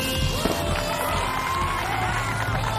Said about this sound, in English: Fireworks streak the sky.